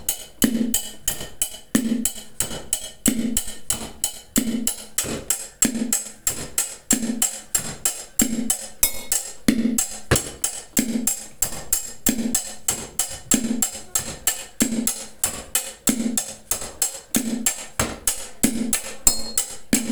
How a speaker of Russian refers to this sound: Сейчас на сковородках слабаю 5 секунд. Раз, раз, раз, два, три, четыре.